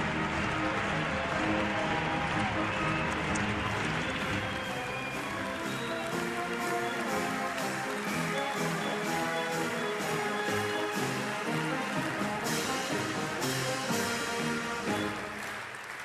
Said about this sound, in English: applauding a standing ovation for J.B. Pritzker